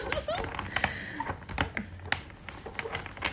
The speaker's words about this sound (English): I haven't shuffled these at all. They're so pretty. Okay. here we go. They're so new, it's like difficult to shuffle these.